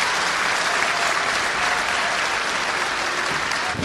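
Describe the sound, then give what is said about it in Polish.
A crowd of GKM Grudziądz fans applauds Przemysław Pawlicki steadily, a dense, continuous wash of hand claps that stays loud and even throughout, with no distinct voices standing out. “Nagradzany oklaskami przez kibiców GKM-u Grudziądz Przemysław Pawlicki.”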